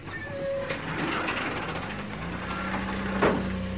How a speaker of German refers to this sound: Auf dem Grundstück der Transportfirma sprang ein Motor an und ein Wagen rollte auf das Tor zu.